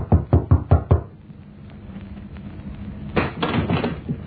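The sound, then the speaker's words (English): Five quick, firm knocks on a hotel room door in an even rhythm, followed by a pause and then a brief muffled clatter, like the door being handled or opened. “I walked down the stairs to the next floor and knocked at a certain door.”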